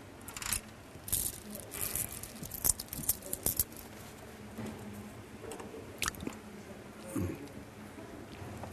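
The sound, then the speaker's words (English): Quiet chewing on a cough drop taken by His Holiness, with irregular crunchy bursts and wet squishy clicks over several seconds, set against a faint background hum. “It's a cough drop, I think.”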